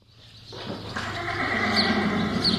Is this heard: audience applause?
no